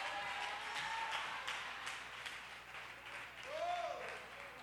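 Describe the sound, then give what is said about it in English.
A church audience claps hands in a slow, spaced-out beat, each clap landing amid a busy crowd murmur, with a brief voice rising over the noise near the end. “See how the hand claps got slow?”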